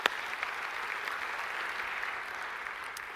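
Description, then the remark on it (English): Steady applause from an audience for the Farmington Hills folks who hosted a Festival of India, a dense continuous patter of many hands clapping at an even level for a few seconds, with no voices on top. “We'll applaud you here.”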